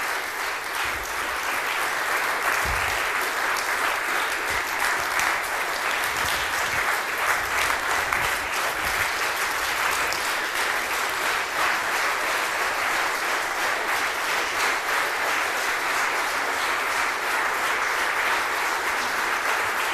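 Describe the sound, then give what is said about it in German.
Sustained audience applause at an event, a dense, steady wash of many hands clapping at an even loudness for the whole stretch, with no voices standing out, as the staff in blue T-shirts are called forward to receive it. “Und es dürfen auch gerne alle mit dem blauen T-Shirt einmal nach vorne kommen und sich den Applaus abholen, also oder hinten stehen bleiben.”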